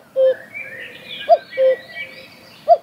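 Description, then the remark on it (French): A cuckoo calls twice, each call a clear, hollow two-note "cuck-oo" spaced about a second and a half apart, with faint birdsong chirping softly in the background. “peut-être connaissez-vous le dicton, le 8 avril, le coucou le dit.”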